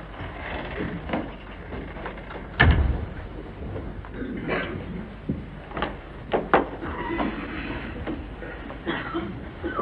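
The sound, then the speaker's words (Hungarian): An office door opens and shuts with a solid thump, followed by a few softer clicks and knocks of movement against a dull, muffled room background. “Hát akkor legyen szíves, menjen be ott az iroda ajtón.”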